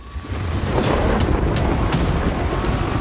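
A thunder sound effect marking a lightning round: a deep, sustained rumble of thunder rolls on for about three seconds, loud and steady, with crackling bursts scattered through the low roar and no voices.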